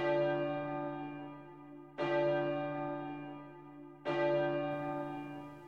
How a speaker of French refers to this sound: Une cloche dans la brume.